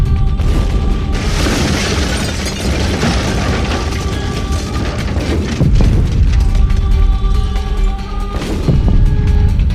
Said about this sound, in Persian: گیج و من گرد و غبار هوا رو نگاه میکردم که صدای انفجار و چند تا شلیک دیگه بلند شد.